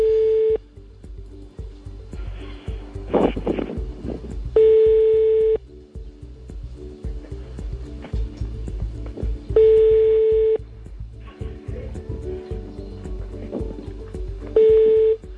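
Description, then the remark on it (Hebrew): A phone line rings out: a steady electronic ringing tone repeats about every five seconds, four bursts in all, with faint rustling and handling noise in the gaps and no one answering. “שננסה טלפון אחר?”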